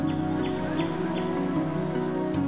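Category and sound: bird, bird song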